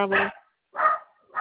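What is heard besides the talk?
dog barking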